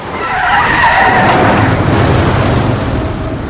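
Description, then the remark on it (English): A car swerves after a gunshot, with a loud, sustained squeal of skidding tires, the screech wavering in pitch over a rumbling engine and road noise for a few seconds. “Rachel, alarmed by the gunshot, swerves.”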